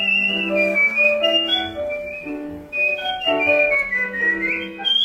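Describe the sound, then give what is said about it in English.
A world record holder for whistling whistles a continuous melody of sliding high notes, clear, over a steady instrumental backing with no talking, while giving a whistling lesson to nuns in their 80s. “The videos show the 80-somethings boxing, sliding down staircases, and getting a lesson from a world record holder for whistling.”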